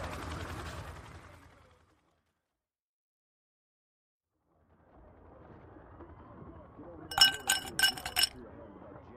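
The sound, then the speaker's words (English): A few bright glass clinks ring out as a glass of brandy is set down and served, following a burst of muffled rustling and a stretch of near silence, with a low murmur underneath. “One glass of brandy as requested.”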